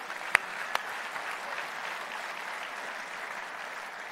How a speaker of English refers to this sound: That's a great place for an applause.